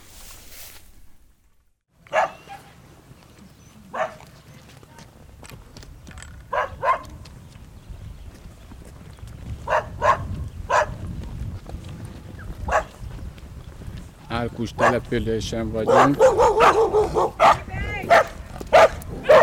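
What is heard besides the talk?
farm dogs barking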